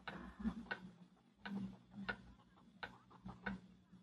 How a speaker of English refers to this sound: Now as the 40 pens of 7B put answers on an empty page, and the wall clock ticks,